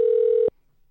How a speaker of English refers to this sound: Jeez, come on, man. Answer the freaking phone.